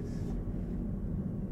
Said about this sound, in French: C'est un drone? Yeah. You see it?